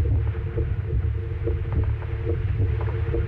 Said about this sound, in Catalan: Aquesta és la primera falca de ràdio feta amb batecs reals de persones que han superat una malaltia cardiovascular.